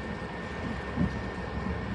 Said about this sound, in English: Okay, the train is now moving, and it is moving backwards, so apparently I am facing the rear of the train.